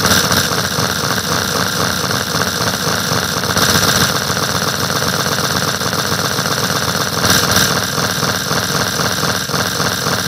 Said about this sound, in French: Alors, par contre, ce qui est bien, c'est que grâce à cela, on peut ressusciter le plus vieux des tracteurs Hurliman, moyennant un petit montage. Voilà le tout nouveau Jean-Mi Hurliman Probst. Écoutez cette belle mécanique bien huilée.